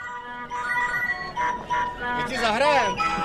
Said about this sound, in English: Above the music and the clinking of cutlery, one heard a most unusual sound for this iconic landmark, people speaking Czech. largely free of foreign tourists, Charles Bridge was transformed on this gloriously sunny evening into one long dining table